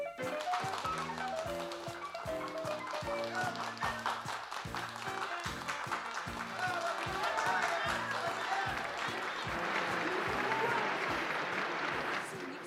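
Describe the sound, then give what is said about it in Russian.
Loud, sustained applause from a theatre audience after a stage performance, calling the players back on stage. Dense clapping with sharp repeated hits builds in intensity, mixed with the crowd's voices and cheering throughout. “Они же хлопают нам, как сумасшедшие!”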